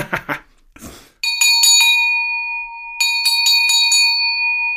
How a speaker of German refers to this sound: ist eine dieser Glocken, die du uns mitgebracht hast, so eine klassische Türglocke